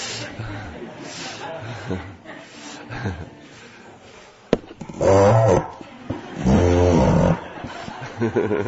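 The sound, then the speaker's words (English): Someone imitates a donkey's bray with their voice: two loud, strained, harmonic bursts in a rough hee-haw pattern, following a stretch of quieter, murmuring background sound. “Like a donkey.”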